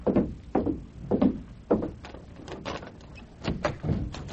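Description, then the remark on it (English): A hotel room door on the first floor being opened at midnight: a string of solid wooden thumps and clunks in an uneven rhythm, fairly loud, with a rattly latch-like click among them and no voices. “Stand to one side, Tonto, and cover me while I open the door.”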